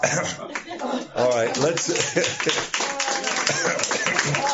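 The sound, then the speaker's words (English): A worship service audience claps in a dense, steady patter of overlapping hand claps lasting the whole stretch, with voices calling out and some light chuckling mixed in. “Well, you know, this is being recorded and it might minister to some listening on the other end if there was an amen or a clap now and then.”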